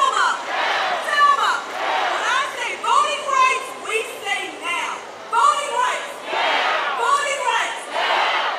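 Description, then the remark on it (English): A large crowd of protesters at a voting rights rally on the mall cheers and shouts together in sustained waves of overlapping voices, rising into louder bursts of yelling and chanting with no single speaker standing out. Many wave signs and wear masks on a blistering hot day. “Protesters cheered and waved signs, many wearing masks on a blistering hot day.”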